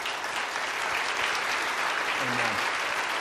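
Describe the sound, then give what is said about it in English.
A large church audience claps steadily, dense applause at a constant level for several seconds, with a faint voice briefly audible beneath it, giving a round of applause to those involved with Upward Celebration. “But if you were involved in any way with Upward Celebration, would you please stand and let our church give you a round of applause?”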